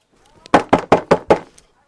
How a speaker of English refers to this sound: Knocking on the door. I need some loaves. Let me in.